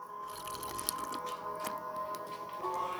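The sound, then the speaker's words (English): Someone quietly sips a drink, with soft wet slurps and small mouth clicks spread over a few seconds. No one speaks. “Let's wet the whistle”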